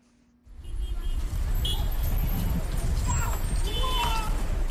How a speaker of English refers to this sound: Car honking, people rushing to work, vendors selling coffee by the side of the road. The streets of Abidjan look just like any other day, just a few hours after results were announced.